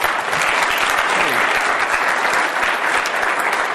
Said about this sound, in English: If we could just get a round of applause to welcome her.